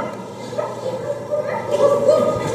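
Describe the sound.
Several voices imitate dogs barking at once during a Simon-says style game, on the command that dogs bark and beg: a loose overlapping chorus of yips and woofs that rises in pitch and energy toward the end, with no real animals present.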